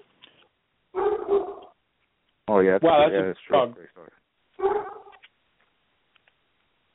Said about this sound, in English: is that your 250-pound dog? Yeah, that's my 250-pound dog going crazy outside.